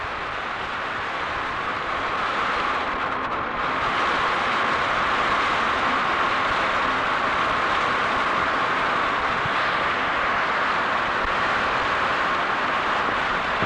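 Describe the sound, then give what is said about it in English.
Heavy monsoon rain in Vietnam pours down in a dense, steady roar of hissing noise that stays loud and unbroken throughout, with no voices heard. “It just started raining a few minutes ago, and it was making so much noise.”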